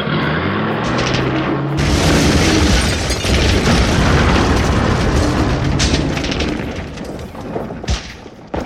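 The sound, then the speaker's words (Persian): Heavy artillery fire from Iraqi Ba'athist forces pounds away in a continuous barrage of deep booms and blasts, loud and dense throughout, with sharp bursts cutting through the rumbling roar. “تنها راه باقی مونده پر کردن کانال با دست بود، اونم زیر آتیش شدید بعثی های عراق.”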